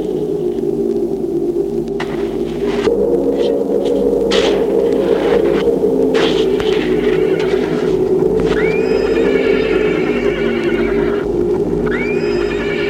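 Horses whinny and neigh repeatedly in a stable while a man tends them, with hoof clops and shuffling over a steady low hum, no voices present.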